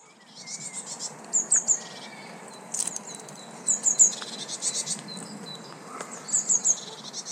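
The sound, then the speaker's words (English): High, thin calls of little blue tits repeat in short bursts of three or four quick notes, in England, over a steady buzzing insect-like background hum; no one speaks. “And that's some little blue tits.”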